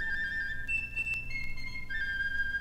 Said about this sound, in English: Sharon, do you hear that skylark?